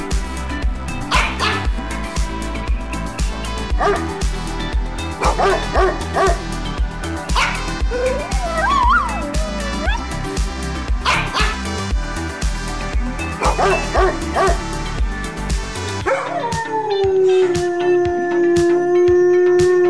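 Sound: dog barking and whining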